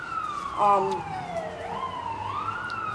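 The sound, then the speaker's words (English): An emergency vehicle siren wails steadily outside as it passes, its pitch sweeping down and back up, with a brief voice rising over it near the start. “despite the siren”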